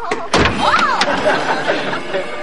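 impact, knocking on a door

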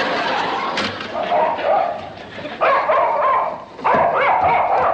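animal, dog barking and whimpering

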